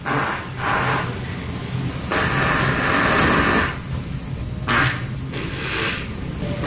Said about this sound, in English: Okay, I think we all know what farts are. So it's like 3 minutes of him sitting down 2 seconds at a time to make a fart and go about his business.